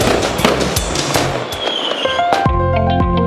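A huge fireworks display bursts in the summer sky in a rapid, crackling series of loud booms and pops, ending with a big bang that leaves a ringing, shimmering tail. No one speaks.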